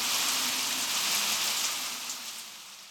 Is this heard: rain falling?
yes